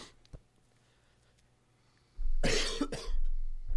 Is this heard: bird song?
no